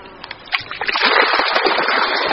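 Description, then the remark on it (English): Water splashes and gushes steadily as it is drained out of a hillside rice field where golden carp are kept, starting with a few scattered splashes before building into a continuous, fairly loud rushing slosh. “But before he starts work, he needs to let some water out of the system.”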